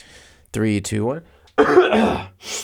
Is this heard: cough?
yes